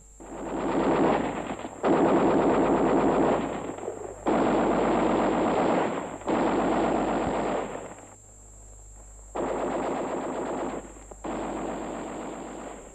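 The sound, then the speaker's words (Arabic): Sustained bursts of loud machine gun fire in a battle with the enemy, several long rattling volleys separated by brief pauses, with dense rapid shots and no talking. “القتال يا إخوان، العدو هربناه.”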